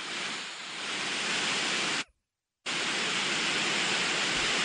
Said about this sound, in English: Well, this is the brown noise one that I use.